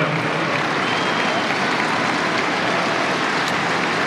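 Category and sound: crowd, tennis crowd applauding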